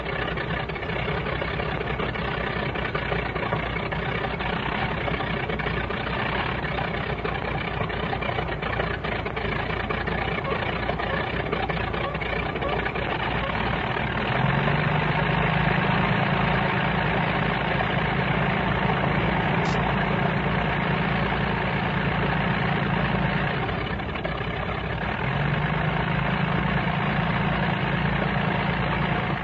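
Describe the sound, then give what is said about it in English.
Two propeller planes idle on a runway at dawn with a steady, rumbling drone. Midway through, a deeper, louder engine tone joins as crew try to start the second plane, briefly drops out, then returns. No one speaks. “They're trying to get the other one going. There's two planes on the runway.”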